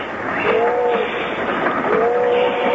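A train rumbles steadily along the rails, a dense, continuous roar, with brief tonal squeals rising over it twice. No voices are heard.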